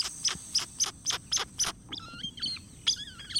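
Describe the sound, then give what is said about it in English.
Ani birds call from their large, flattened bills: a rapid series of sharp, high whistled notes followed by slurred, wavering whines and squeaks, clear over a faint background hiss, with no talking. “The Ani's large, flattened bill spits out these sharp, high whistles, slurred whinings, and various squeaks, pips, and growls.”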